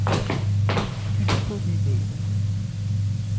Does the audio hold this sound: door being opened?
yes